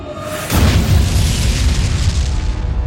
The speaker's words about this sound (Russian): Мощный рыкающий грохот, казалось, вырвал его барабанные перепонки. Высосал воздух из груди.